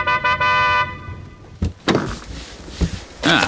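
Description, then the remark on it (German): A car horn honks three times in quick succession, two short toots and then a longer blast, from a car parked in front of the high steel gate of an old warehouse in a Hollywood side street, followed by a door thudding shut and some clunking noises. “Der Stuntman parkte seinen Wagen direkt davor und hupte mehrmals.”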